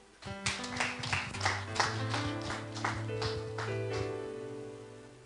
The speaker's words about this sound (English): Praise God. I'm telling you. Clap your hands, friends.